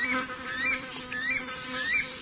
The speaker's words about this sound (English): It's a nice little fly flying around.